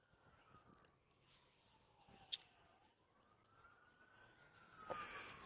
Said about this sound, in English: Now, you hear the sirens behind me.